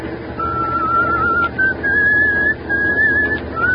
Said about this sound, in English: if you got a whistle, at least change that tune.